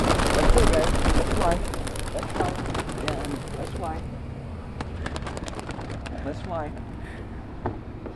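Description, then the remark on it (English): A flurry of wings as a group of doves released from baskets in Los Angeles takes off together, rapid flapping bursts, with people's voices and exclamations over the commotion and a few soft coos. “The doves immediately form a group and begin moving as one unit.”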